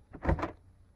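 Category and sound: household object, door closing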